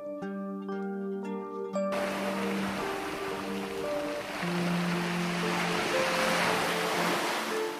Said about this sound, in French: Aujourd'hui, j'ai choisi le son de l'océan, une relaxation qui aidera votre enfant à se glisser paisiblement dans le sommeil en toute sérénité.